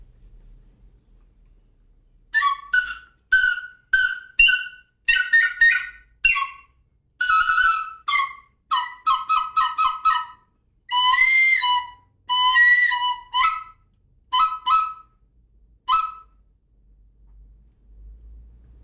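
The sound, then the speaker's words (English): An ancient bone flute, about 4,000 years old, plays a quick run of short, bird-like whistled notes, chirping and trilling in bursts with brief pauses between, clear with a faint low rumble underneath. “One suggestion is that they may have used it as a hunting instrument and make bird calls.”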